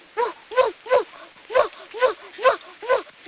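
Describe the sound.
A young boy mimics a dog, letting out about eight rhythmic, voiced bark-like yelps in quick succession, fairly loud, with no other talking.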